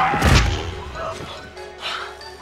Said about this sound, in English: splatters on the windshield.